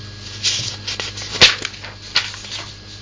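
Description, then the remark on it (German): A pencil case is opened and closed, with a few brief scraping, zip-like bursts and soft rustling between them, against a quiet background with no talking. “Jetzt ist es wieder auf. Jetzt ist es wieder zu.”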